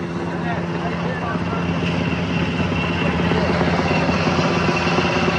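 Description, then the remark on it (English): A helicopter hovers overhead, its rotor beating in a rapid, steady chop over a loud, continuous roar of engine and downwash that never lets up, kicking up everything around it. “That helicopter just came around here and kicked up everything.”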